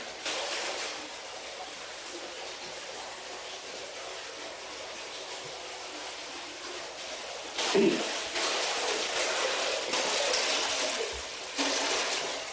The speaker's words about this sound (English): I think you can hear the water rushing in the basement.